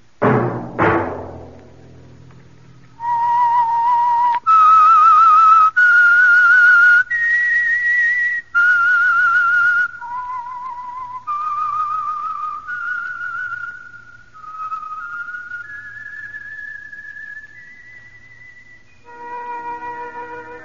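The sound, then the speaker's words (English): A short opening musical hit gives way to a slow, haunting signature theme tune of a radio program, whistled alone and clear, with long sustained notes sliding between pitches and no one speaking. “That whistle be your signal for the Signal Oil program, The Whistler.”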